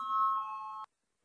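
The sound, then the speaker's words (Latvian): A parliamentary voting bell sounds as one steady electronic tone with bright, ringing overtones, holding for under a second before cutting off sharply into silence. It is rung to call a vote on the 23rd proposal, from the finance minister Reirs. No one speaks. “Lūdzu, zvanu, balsosim par 23.”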